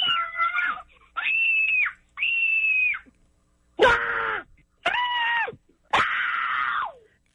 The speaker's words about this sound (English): There's been over 70,000 people that have called to scream. Wow. They just call and they just scream.